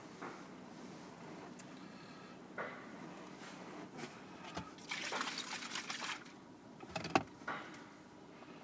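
Car wash workers spray water with hoses and scrub a car with brushes in front of a large car wash machine, a steady wet hiss that swells into louder rushing bursts, with a few sharp knocks. No one speaks.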